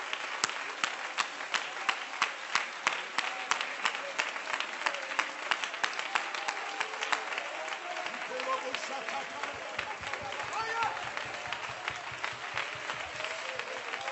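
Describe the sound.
A church audience claps hands unto the Lord in praise, a dense, continuous patter of many sharp claps, steady and fairly loud throughout, with scattered voices murmuring underneath.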